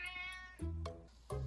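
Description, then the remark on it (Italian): A cat meows loudly several times in quick succession, the drawn-out, strained cries starting high and dropping lower, with no talking. “Vabbè, non t'arrabbiare, gatto, che deve fare, miagola.”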